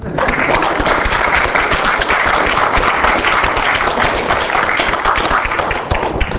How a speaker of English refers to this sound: and I guess they're not here, but let's clap for them.